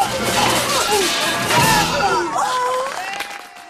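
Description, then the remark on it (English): A loud, continuous chain of metallic crashes and clattering as armored knights in a great hall fall into each other and topple over like dominoes, down the hall and up and down stairs, with ringing tones and a few voices mixed into the din. “The knights fall into each other and topple over like dominoes, leading down the hall, up one set of stairs, down the other set of stairs, and along the other side of the hall until the last knight falls.”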